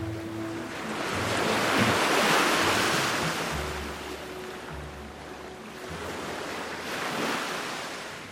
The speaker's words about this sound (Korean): 겨울바다는 심하게 몸살을 앓는다. 검은 수면은 끊임없이 들썩거리고 파도는 폭우를 집어삼킬 듯 거세게 일렁인다.